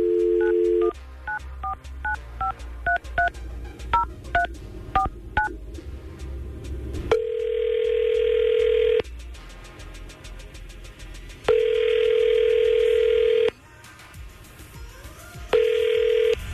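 A quick series of touch-tone dialing beeps, followed by an outgoing phone line ringing in repeated long tones with pauses between them, clear and close with no one talking.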